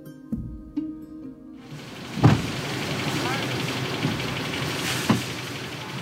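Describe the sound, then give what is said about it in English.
On a hot, bright August day in the village of Chimayo, a line of cars idles outdoors around a community center that was once an elementary school. There is a steady low engine rumble with a few sharp clunks like doors or shifting gears, and faint indistinct voices in the background. “A line of cars winds around Barrios Unidos, a community center that was once an elementary school, right in the center of the village.”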